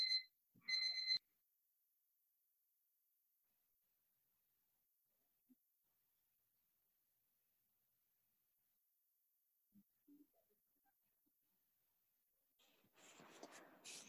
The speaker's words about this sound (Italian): Scusate, mi sta suonando la sveglia, la spengo.